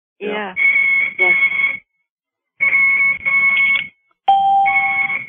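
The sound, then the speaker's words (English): An IV infusion pump beeps loudly, sounding steady high-pitched electronic alarm tones in three long bursts separated by short pauses. “Her IV. You hear the beeping?”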